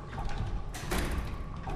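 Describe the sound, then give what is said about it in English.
A door into a plant room is pushed shut with a short, heavy scrape and thud about halfway through, over a steady murmur of room noise. “Shut the door.”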